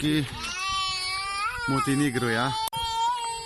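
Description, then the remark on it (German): An infant cries in long, high, strained wails that barely pause, loud, with a man's lower voice briefly cursing and a sharp break near the end, recorded on a mobile phone at the Bosnia–Montenegro border near Klobuk. “Ein Baby schreit, ein Mann flucht, die Handykamera schwenkt.”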